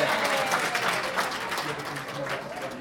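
A room full of people applauding steadily, a dense wash of clapping hands that carries on for several seconds at a fairly even volume.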